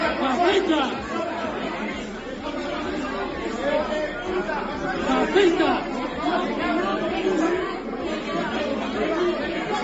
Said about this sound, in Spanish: Don Benito, otra vez Don Benito, lío, trifulca, gritos y muchos insultos al terminar el último pleno del consistorio.